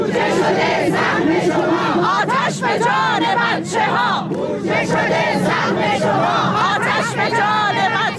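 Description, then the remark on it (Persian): A large crowd of retired teachers at a protest rally in Isfahan, Iran, over the deaths of four children in a school fire in Zahedan, shouts slogans in unison, voices rising and falling in a steady chanting rhythm, loud and continuous throughout, with overlapping yells and a dense wash of many voices. “در گردهمایی اعتراضی فرهنگیان بازنشسته در اصفهان، بنابر تصاویر منتشر شده در سایت‌ها و شبکه‌های اجتماعی، تظاهرکنندگان در اعتراض به فاجعه مرگ 4 کودک در آتش‌سوزی اخیر مدرسه‌ای در زاهدان فریاد می‌زدند: بودجه شده سهم شما، آتش به جان بچه‌ها.”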